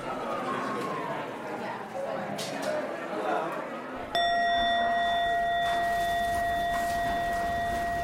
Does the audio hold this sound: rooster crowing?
no